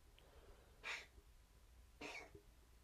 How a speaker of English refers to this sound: is trying to cough up a hairball. He ain't got no hair though. So you okay? You okay?